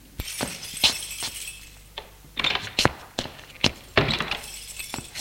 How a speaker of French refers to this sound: La porte d'entrée qui s'ouvre.